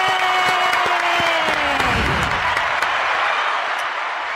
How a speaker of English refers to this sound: It's probably the only applause you're getting today.